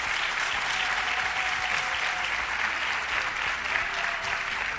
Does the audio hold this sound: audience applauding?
yes